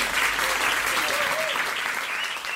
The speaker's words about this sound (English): Before we get started, can we get a big round of applause for Hafi for hosting this whole thing?